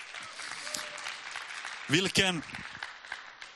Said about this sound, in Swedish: Ge dem en applåd. Jag tycker de är fantastiska.